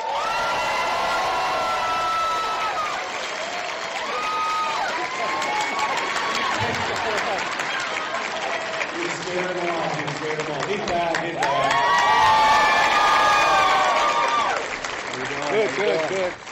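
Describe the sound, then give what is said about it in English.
A large crowd cheers and applauds steadily as LeVar Burton is introduced, with loud whoops and high-pitched shouts rising above continuous clapping, swelling louder near the end. “That's a good crowd. There's a lot of you.”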